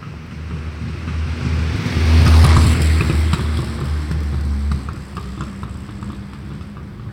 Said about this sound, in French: C'est comme si elle avait l'accent parisien, cette voiture. C'est curieux, hein.